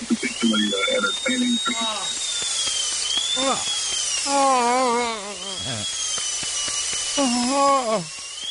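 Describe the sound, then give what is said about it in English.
A steady, high-pitched dentist's drill sound effect whines continuously for several seconds, fairly loud, while voices make wavering, drawn-out sounds over it. “Give me some like dentist drill sound effects.”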